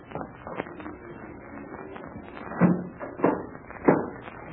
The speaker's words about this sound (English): Captain Blaze, you will close and lock that door as it was before. Be quick.